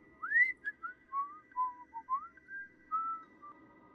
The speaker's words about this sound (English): She can also imitate a human whistling. So if you hear these types of noises, you are supposed to ignore it.